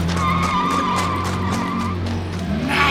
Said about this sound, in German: Nun näherte sich das Polizeiauto in höchster Geschwindigkeit.